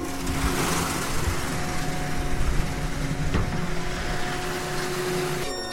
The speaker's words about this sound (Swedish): Nu kör motorn igång igen.